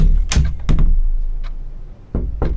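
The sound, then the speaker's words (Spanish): A door shuts with a couple of solid thuds, then after a short pause come two firm knocks on the same door, fairly loud, with no one talking. “Cierra la puerta y vuelve a llamar.”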